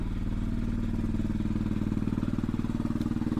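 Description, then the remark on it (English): A noisy motorcycle engine runs with a rough, rapid pulsing rumble and a low throb, holding steady for a few seconds with no voices. “That engine is too noisy. Get it sorted, mate. Your engine makes that shitty noise.”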